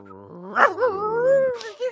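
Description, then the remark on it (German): A person vocally imitates a dog-like creature as a mouth-made stage sound effect, a whining, warbling howl with a sharp yelp near the start and a short throaty tail, fairly loud, no other sounds. “Ist mir zu hundig? Könnte mehr Vogel sein noch?”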